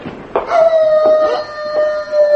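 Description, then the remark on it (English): A werewolf called Cousin George gives a long, drawn-out howl holding one steady, slightly falling pitch for about two seconds, loud, with faint muffled knocks or shuffling underneath. “What's that? A wolf?”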